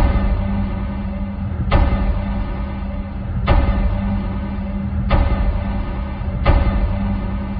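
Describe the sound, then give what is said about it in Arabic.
Recorded radio waves from a pulsar, a neutron star spinning more than 30 times per second, rendered as sound: a steady, rumbling static hiss broken by four evenly spaced, sharp thuds that resemble slow knocks on a door, with no voices. “وتطلق موجات راديوية شديدة. هذه الموجات تصل إلى سقفنا، إلى الغلاف الغازي للأرض، وتشبه تماما الطرقات على الباب.”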